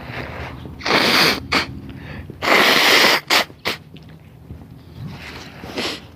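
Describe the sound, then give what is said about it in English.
Someone blows their nose on a 30-degree Fahrenheit (about minus 1 Celsius), below-freezing morning: two loud, forceful honks separated by a pause, each followed by quick short snorts, with quieter breathing and faint background noise in between. “Gonna blow my nose.”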